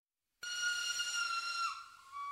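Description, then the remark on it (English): After a moment of silence, a loud train whistle blasts suddenly and holds a shrill, steady tone for about two seconds, dipping slightly in pitch near the end. “Then the passengers heard a loud whistle from the train and everyone jumped up.”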